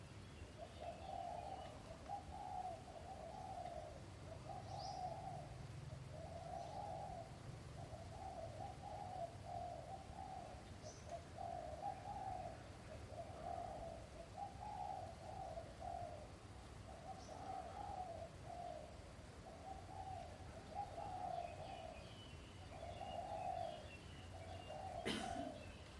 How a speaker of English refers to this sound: And even sound is feeling. Your eardrum is vibrating and making contact with the sound of the birds and the creatures outside of the building. You're feeling that.